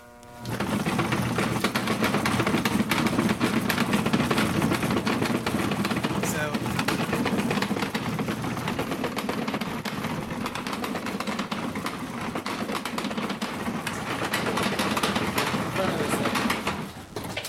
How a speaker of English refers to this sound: So let me turn it on real quick. Manufactured by A.T. Farrell and Company. Yeah, so it's the Saginaw, the Clipper Company. And so the old seed cleaner on my parents' place, my dad's, is a 4-screen clipper. This is a 2-screen clipper.